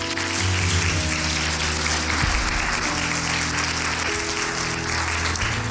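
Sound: audience clapping hands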